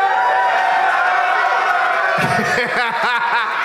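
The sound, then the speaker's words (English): A large crowd at the first live Doug Loves Movies show at Skankfest chants loudly and raggedly on a Friday afternoon, voices out of sync, with a dense roar of many people and rhythmic rising shouts toward the end. “It was like half the crowd knows the chant and the other half is just here to have a nice time on a Friday afternoon.”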